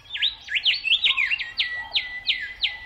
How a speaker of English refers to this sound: Travel in the direction of a chirping bird, and you'll likely be led to food, water, and a favorable habitat. Our ears are actually more closely tuned to hear bird song than even the human voice.